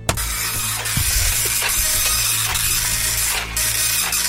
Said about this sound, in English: I apologise. This is a really slow printer. It's a really slow printer. It's a slow. Takes ages to print out. It's a very slow printer.